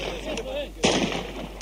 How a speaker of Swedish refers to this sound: Och den vilda skottlossningen skördar offer. Om det sen är en vän eller fiende som trycker av vet ingen så noga längre.